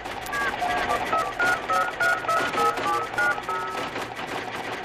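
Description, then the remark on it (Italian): A quick run of touch-tone dialing beeps, roughly a dozen short paired tones stepping in pitch, heard over a dense, clattering background noise. “Telefonata urgente per la signorina Mara Miceli.”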